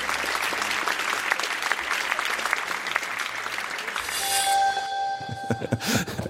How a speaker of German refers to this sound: Harald Schmidt, wir haben Rotlicht. Hey, das ist der Moment, wo das Publikum applaudieren kann, oder?